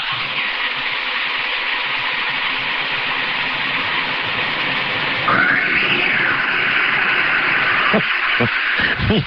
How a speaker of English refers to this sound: and a little manipulation created what it would sound like if a cat were to be tossed into Mel's Hole. It's meant, obviously, as pure comedy. This is not actually a cat being tossed into Mel's Hole, but here is the way he represented it would sound.